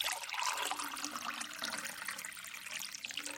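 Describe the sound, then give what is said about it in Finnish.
Water runs steadily from a tap into a glass, a continuous bright splashing hiss that stays fairly loud for a few seconds, with no voices. “Kun otat kraanasta lasillisen vettä, sinulla on osa maapallon historiaa käsissäsi.”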